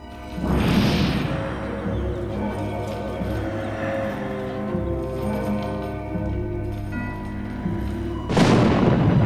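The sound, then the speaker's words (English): Two loud thunderclaps crack and boom during a night lightning storm, one at the start and another near the end, with a deep rumbling roll sustaining between them, heavy, with no voices. “Outside, forks of lightning illuminate the dark clouds in the night sky.”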